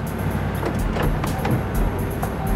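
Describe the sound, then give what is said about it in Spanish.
A car carrying a couple arrives at a Western Union office, its engine rumbling steadily, a deep, continuous low drone at an even loudness, with a few faint ticks and clicks riding on top. No voices. “Lograron identificar a la pareja que llegaba en un auto.”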